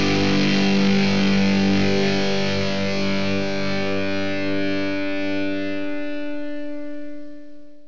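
A distorted electric guitar sustains a thick, buzzing chord with rich harmonics, ringing steadily for several seconds before slowly fading, with no voices.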